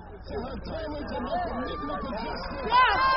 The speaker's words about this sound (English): With hands and voices raised, demonstrators marched for hours around Baltimore